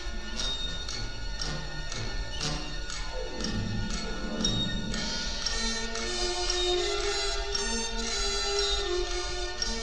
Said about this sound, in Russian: Только мы, большие стенные часы, никогда не спим, не отдыхаем, не останавливаемся, потому что мы — время.